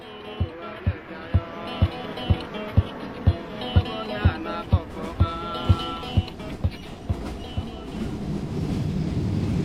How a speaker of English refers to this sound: As you can probably tell, I'm on the train which still runs on the very same tracks laid by that first wave of immigrant labourers from India.